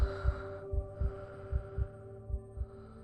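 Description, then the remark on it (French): A rapid heartbeat thumps in low, paired lub-dub pulses, about six beats in three seconds, over a steady droning hum with no voices. “Votre cœur bat de plus en plus fort.”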